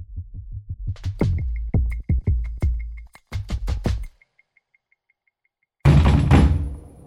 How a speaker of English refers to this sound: I was thinking, who would pound people's door like that? So I run without even... That's a Chinese scientist recalling the night FBI agents came to his door to arrest him.